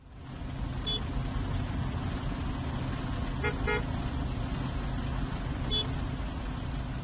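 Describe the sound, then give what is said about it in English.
Steady rumble of city street traffic slowly inching along in Rio de Janeiro, Brazil, in early summer, punctuated by a few short car horn toots: a single beep, then a quick double honk, and one more near the end. “With summer quickly approaching south of the equator, traffic in Rio de Janeiro slowly inches along as tourists start to flood this beach metropolis, escaping the harsh northern hemisphere winters.”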